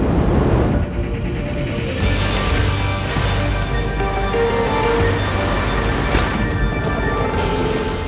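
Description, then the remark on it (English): A loud, continuous roar of wind and rushing sea water while kitesurfing, steady for the whole stretch, with the board cutting through the water, wind pulling at the kite, surging swells rising and falling and no voices. “Board cutting through the water, feel the wind pulling at the kite, and see myself riding the waves.”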